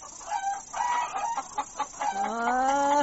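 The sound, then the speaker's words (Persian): A handful of hens and chicks, just fed grain, cluck in short, overlapping bursts before a rooster lets out a long, rising crow that fills the last second. The birds sound fairly loud, and no one speaks. “چه سر و صدای راه انداختن این یک مشت مرغ و چوچه.”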